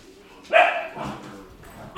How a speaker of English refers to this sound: Dogs won't stop barking.